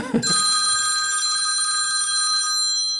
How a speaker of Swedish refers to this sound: Och där fick han telefon